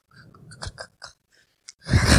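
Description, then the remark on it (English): Someone imitates a man crunchily chewing Cheetos with their mouth: a quick run of crisp crunching bursts, a brief pause with a couple of small clicks, then a louder, longer burst of noisy crunching at the end. “And there's just this guy just sitting there chewing on Cheetos.”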